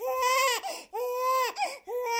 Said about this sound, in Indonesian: sampai yang menjengkelkan seperti seseorang yang mengunyah makanan dengan berisik, napas yang keras, atau bayi menangis.